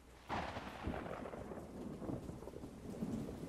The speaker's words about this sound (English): And I think I hear the storm out there a little bit.